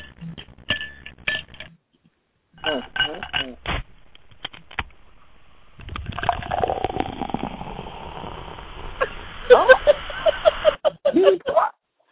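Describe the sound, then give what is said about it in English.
Coke pours into a glass with a steady fizzing hiss that builds for several seconds, followed by a few bright clinks of glass near the end, after some brief laughter and rustling. “And Coke pour is what it says.”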